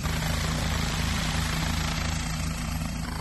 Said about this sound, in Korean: 자, 이제 헬리콥터가 이륙하기 위해서 준비를 하고 있습니다. 사람들은 사진기를 들고 헬리콥터 주변에 모여 있는데요. 경찰 헬리콥터이기 때문에 더 기대감을 가지고 지켜보고 있습니다. 자, 이제 헬리콥터가 드디어 이륙을 하나요?